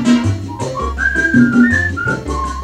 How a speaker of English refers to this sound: So whistle, …. Whistle high and whistle low.